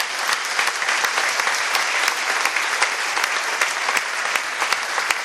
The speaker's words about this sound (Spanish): Un aplauso al Señor, ¿eh?